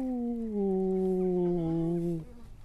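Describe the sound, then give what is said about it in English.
A single long wolf howl holds a steady, slightly falling pitch for about two seconds, loud, then cuts off into faint background noise. “Will we go and have a look at some wolves then?”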